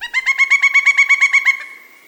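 A pileated woodpecker gives its loud call, a rapid ringing series of about a dozen evenly spaced notes over a second and a half, fading into a brief trailing tone. It is alone.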